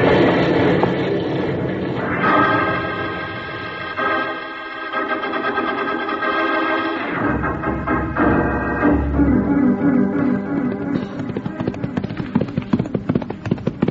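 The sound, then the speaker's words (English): A fast-moving train brakes hard to a stop after the emergency cord is pulled: a loud, sustained metallic squeal rides over heavy rumbling, then gives way to clanking, rattling jolts as the cars shudder and settle. “I've got to stop the train. I'm pulling the cord.”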